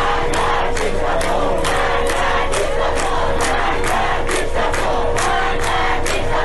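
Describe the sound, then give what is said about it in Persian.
A large crowd of students chants slogans in unison at a protest at the University of Isfahan: loud rhythmic bursts of many voices repeating at a steady beat, with shouting and a constant roar of people filling the gaps between phrases. “و دانشجویان در دانشگاه اصفهان شعار دادند.”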